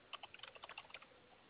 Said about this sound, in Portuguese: Tô digitando aqui, momentinho.